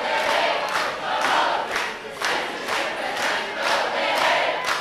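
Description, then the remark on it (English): A large crowd of students chants together in a steady rhythm at a rain-soaked rally on a university quad, voices swelling in regular pulses roughly once a second, loud and dense. “After attending a rain-soaked rally on the quad, they came to the university YMCA for Salida's first news conference since losing his position.”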